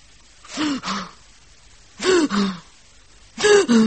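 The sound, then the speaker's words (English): A voice imitates the heavy, puffy, stertorous breathing of an unconscious woman: three paired in-out gasps with pauses between, fairly loud, each breath rough and voiced. “And I don't like her breathing. If you ask me, it's stortorous. Stortorous? Sort of puffy. Like this.”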